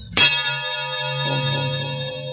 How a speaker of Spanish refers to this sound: El espantoso suplicio sonoro ha comenzado. Jato golpea la enorme campana a la que está encadenado ahora Calimán. Y el estruendo es insoportable, enloquecedor.